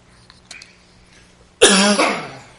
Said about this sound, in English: Excuse me for a minute. Once I cough once, I'm going to keep coughing until I get a drink.